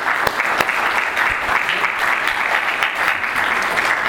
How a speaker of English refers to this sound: And I must laud the government of Israel, the government of the United States, for doing what had to be done. Let's give them a rousing round of applause.